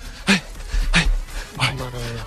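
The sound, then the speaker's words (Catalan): A Brittany spaniel pants in three sharp, breathy bursts, followed by a soft, drawn-out whimper, with human voice sounds mixed in, in a large park. “Quina raça de gos és? Això és un bretón.”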